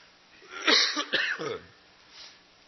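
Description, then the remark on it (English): A fairly loud cough in a short burst of two or three harsh hacks, followed by a faint throat sound as it trails off into quiet. “I'm trying to think of what to say, and I'm trying to think about how not to cough at the same time.”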